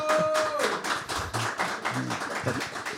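A small group gives a consolation applause, steady, dense clapping for about three seconds, a brief held tone fading out at the start and a few low murmurs from voices mixed in.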